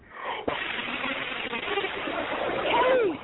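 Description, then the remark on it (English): A toilet flushes during a phone call with a sharp click, then a steady rushing gurgle of water that swells toward the end before cutting off, sounding muffled and thin over the phone line. “She's like a toilet flushing, bitch.”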